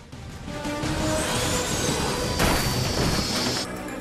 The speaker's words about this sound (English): Drone is down! The tiny plane bounces and scrapes along the hard surface. Flames begin to issue from the rear. It spins and slides, now almost fully engulfed in flame.